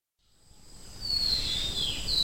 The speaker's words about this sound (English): It's April the 1st, and it's about 6:45 in the morning. The birds are much more prominent in the mornings and in the early evening, so I thought I'd try and record them now. We're in Chitwan National Park